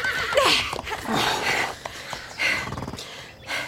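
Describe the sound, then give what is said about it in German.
A horse in a transporter neighs loudly, a shrill, wavering whinny repeated in a few bursts, with snorting and rustling movement in between and no talking. “Uns gehören die Pferde in ihrem Transporter.”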